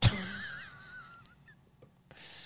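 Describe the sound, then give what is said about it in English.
A cartoonish ketchup-bottle fart sound effect played by an Alexa smart speaker: a sudden wet burst that trails into a thin, wavering squeaky whine, with a few faint sputtering pops and a hissy tail, no talking. “That was a ketchup fart. I've never heard that before in my life. It's like squeezing the ketchup bottle that's almost empty.”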